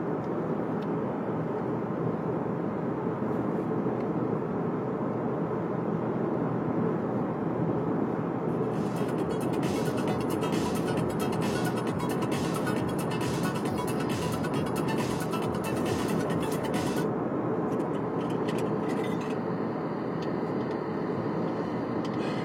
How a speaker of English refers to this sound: There are a lot of cars out here on the road, but everyone's going fast. It seems like if you're driving this early, you're probably some kind of crazy professional commuter. So all these cars are tailgating each other, but everyone's doing 70,